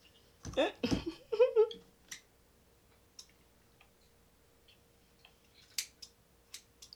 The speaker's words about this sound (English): Why do scissors have so hard of a time?